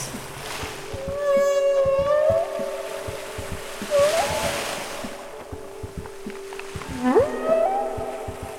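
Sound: whale song underwater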